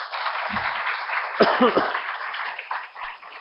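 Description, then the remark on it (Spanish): Sustained audience applause for a newly sworn-in university rector before his presentation of the social report: a dense, steady clatter of many hands clapping for several seconds, with a brief voice or cheer rising above it partway through. “Y para animarlo a la presentación del balance social, les invito para que lo acompañemos con un fuerte aplauso.”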